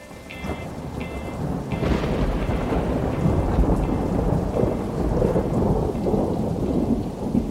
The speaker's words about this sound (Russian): Вот наступили такие летние дожди, каких много-много лет не видали в горах. Целых 3 месяца долину окутывали тучи и наполненный влагой туман. Постоянный неумолимый дождь прерывался ливнем с грозой, и по окончании одной грозы налетала другая.